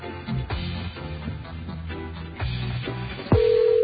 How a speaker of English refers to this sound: That's his phone ringing.